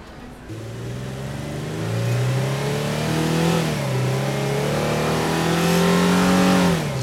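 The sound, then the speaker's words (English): A car engine revs hard and accelerates as the car is driven fast, its pitch climbing and dipping through gear changes, loud throughout with no voices over it. “Jeepers, Al, slow down! Would you just trust me? We're getting out of here. Just pull the car over”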